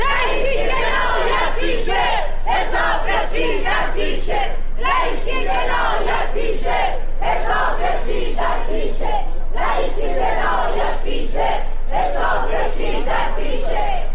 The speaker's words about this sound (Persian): همزمان با برگزاری دادگاه، بسیاری از شاکیان پرونده و خانواده قربانیان کشتارهای دهه 60 با در دست داشتن پرچم‌ها یا تصاویر قربانیان در مقابل دادگاه تجمع کردند و شعارهایی از جمله علیه ابراهیم رئیسی سر دادند.